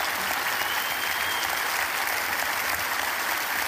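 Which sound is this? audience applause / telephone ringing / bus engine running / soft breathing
audience applause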